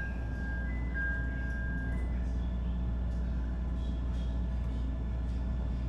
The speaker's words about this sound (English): Doors closing.